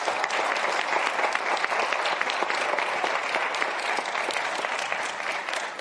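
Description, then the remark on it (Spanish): Sustained applause from an audience in Colombia for the members of the public security forces who are present, a dense, steady wash of many hands clapping at an even loudness for several seconds, with no voices standing out. “Yo pido un aplauso para los miembros de la fuerza pública que están aquí.”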